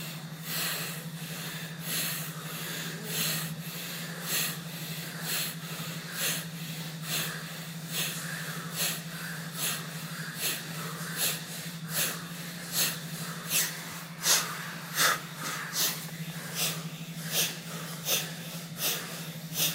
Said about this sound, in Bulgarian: А сега малко по-бързо ускори, до ритъма на бастрика дишане.